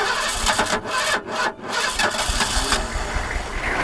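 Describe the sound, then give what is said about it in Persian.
The engine of a captured car that has just been repaired cranks and catches, sputtering through a few brief dips before settling into a loud, steady rumble. No one speaks. “ها درست شد، حالا میتونیم بریم. دمت گرم عسکری. دکتر ماشین آماده شد، میتونیم بریم.”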